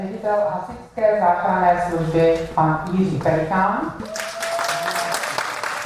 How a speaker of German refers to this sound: Für den anwesenden Leiter des Feuerwehrrettungsdienstes Jiří Pelikán gab es ausgiebigen Applaus.